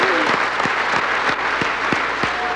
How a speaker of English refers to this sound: That a return by the President to the rostrum to receive more applause and cheers.